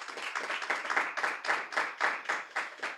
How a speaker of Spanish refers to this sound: Vamos a dar fuertes palmas al Señor, hermanos.